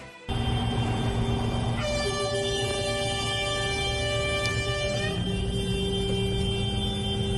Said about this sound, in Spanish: No había salido el sol y a las 7 de la mañana Logroño ya vibraba con el eco de cientos de bocinas.